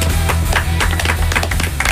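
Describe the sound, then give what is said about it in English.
Several real hands clap, with no sound effects, in a quick, uneven flurry of sharp slaps for about two seconds, fairly loud, over a steady low hum and with no one speaking. It is a round of applause for the trainees at the end of a training show at radio station WMFO in Medford. “Actual hands clapping. No sound effects were used.”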